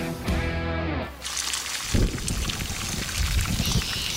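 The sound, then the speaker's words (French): A crackling, rain-like wash of dense hiss and patter that sounds like steady summer rainfall, made by sizzling medium-lean ground beef. It follows a brief tonal, buzzing burst at the start. “Hey, la fraîche pluie d'été que vous entendez a été faite avec du bœuf haché mi-maigre.”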